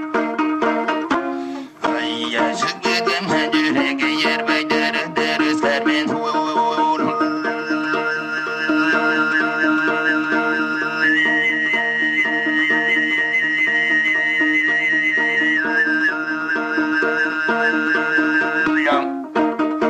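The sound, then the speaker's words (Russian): Tuvan throat singing in a rare archival recording from Tuva: a steady, buzzing low drone topped by a piercing, whistle-like overtone melody that shifts pitch and holds long notes, sustained for the whole stretch after a brief break near the start. “Слышали редкую запись из Тувы, образец горлового пения.”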